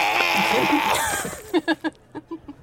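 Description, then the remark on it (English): A person vomiting: a noisy, gushing splash followed by about six short, throaty retching heaves in a quick rhythmic series, moderately loud, with no talking. “Did you hear me throw up that time?”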